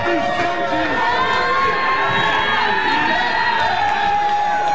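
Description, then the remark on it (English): A loud, steady roar of Cleveland Browns fans cheering and shouting in a bar in the Cleveland area after the team's first win since December 24, 2016, many voices blending into continuous excited yelling and whooping that holds for the full few seconds. “That's Cleveland Browns fans at one of many bars in the area that unlocked their victory fridges.”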